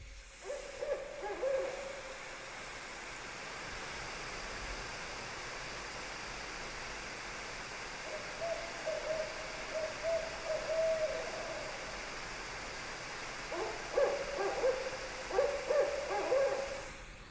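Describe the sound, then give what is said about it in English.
Three barred owls call to one another in several bursts of hooting, wavering hoots that rise and fall against a steady hiss of background noise, with a livelier cluster of calls near the end. “I googled like, what does a barred owl sound like, and it's exactly this.”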